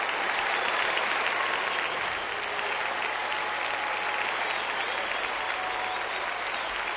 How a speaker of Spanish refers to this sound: Se marcha el camero, que ha igualado a Iker Casillas. Le aplaude el Molinón. Escuchamos la ovación.